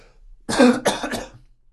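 Someone spits a wasp out of their mouth: three quick, forceful hacking bursts, harsh and breathy like a cough or throat clearing, with no talking.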